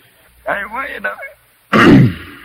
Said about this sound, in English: See, just clear your throat real good, then you can keep right on.